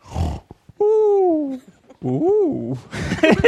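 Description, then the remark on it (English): A voice imitates a string of different snores: a raspy snort, a long whistling drone that slides downward, a wavering nasal hum, then a rough, breathy rattle to finish. “For a few moments, he snored a variety of snores.”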